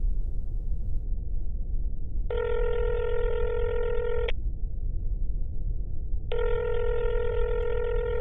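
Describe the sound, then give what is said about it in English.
A phone line's ringback tone sounds twice as a person calls a man, each buzzy ring lasting about two seconds with a pause between, over a steady low rumble of line noise. No one speaks. “It's ringing.”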